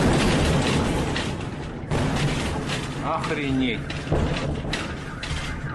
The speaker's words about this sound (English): a 12,000-ton meteor exploded over Russia.